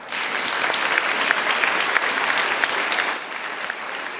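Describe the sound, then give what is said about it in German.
Steady applause from an audience, a dense, even patter of many hands clapping at moderate loudness for several seconds with no voices over it, easing slightly at the end. “Vielleicht können wir Ihnen mit einem kleinen Applaus unsere Verbundenheit signalisieren.”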